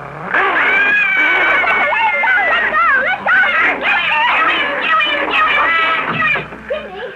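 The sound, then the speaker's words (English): A frightened dog screams loudly after another dog tried to bite it, a continuous run of wavering, high-pitched yowls and shrieks that rise and fall for several seconds without a break. “Mr. Blister tried to bite my dog. Look how frightened Toto is.”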